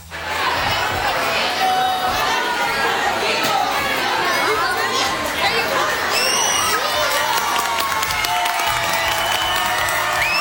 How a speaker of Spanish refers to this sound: De hecho, la comunidad educativa de la Escuela México recibió, cómo no, con aplausos a las campeonas.